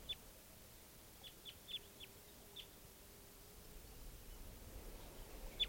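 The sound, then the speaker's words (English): A lone female wild bird from a flock of type 2s gives a series of short, high chirps, about eight in irregular bursts, fairly faint over a low rumbling background hum with no voices. “Those birds are still around. Here's a female by herself.”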